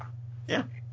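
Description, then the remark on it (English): A single short bark from a pet dog, muffled, rising briefly above a steady low electrical hum with no one speaking. “I'm done because my dog started barking again.”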